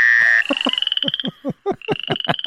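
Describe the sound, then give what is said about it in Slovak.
A dense chorus of frogs croaking in quick, rhythmic pulses, with a steady high-pitched trill running underneath; fairly loud, no talking. “Otázka je, že či tento zvuk sú naozaj žaby alebo je stará mama.”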